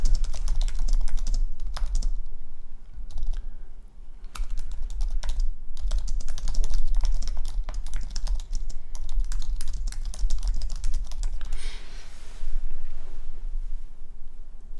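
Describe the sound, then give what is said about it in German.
Steady clatter of computer keyboard typing, with rapid irregular key presses over a low rumbling background for the whole stretch. “Es wird so eine anstrengende Folge, weil ständig das Tastaturgeklapper zu hören ist, glaube ich.”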